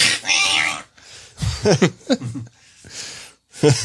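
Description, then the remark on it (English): A strained, wailing cat yowl rises and falls in a few short bursts, mixed with harsh breathy hissing noises, loud, with no clear talking. “Sir, your cat's no longer alive.”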